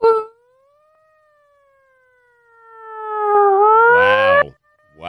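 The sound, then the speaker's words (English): A child's voice imitates a police siren with one long, sustained wailing tone that slowly rises and falls, then swells louder into a strained, warbling climax before cutting off abruptly. “You want to try a siren?”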